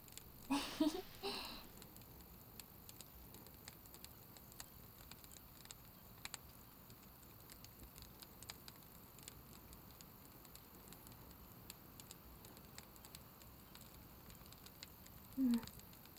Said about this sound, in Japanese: なんか、焚き火の音って眠くなるね。